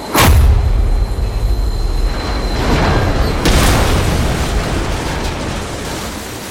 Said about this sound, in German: Und da wollte ich gerade mit der Hand darauf zeigen und dann gab es nochmal einen riesen Ruck und einen riesen Knall und dann sind wir auch beide schon geflogen, durchs Abteil geflogen.